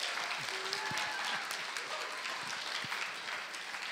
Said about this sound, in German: Lass uns ihnen mal einen Applaus geben, weil das haben sie wirklich gut gemacht.